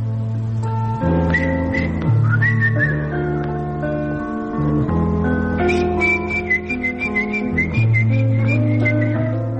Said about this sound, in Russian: А занятие художественным свистом так и осталось хобби, увлечением, растянувшимся на 60 лет.